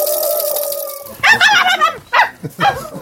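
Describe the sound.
A performer playing the role of a yellow dog in a stage show imitates a dog, starting with a drawn-out howl for about a second, then breaking into a rapid series of loud yapping barks.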